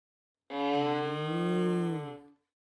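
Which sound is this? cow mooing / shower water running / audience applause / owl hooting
cow mooing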